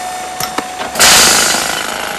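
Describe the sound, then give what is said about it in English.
A few brief knocks, then a loud power drill kicks in and keeps whirring and grinding steadily until the end, with no voices. “frowns to himself and returns to his drilling.”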